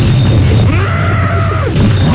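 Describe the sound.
A 40-year-old man lets out a single loud, drawn-out roar imitating a monster, the roar he makes during a bowel movement, rising and falling over about a second against a rough, noisy background.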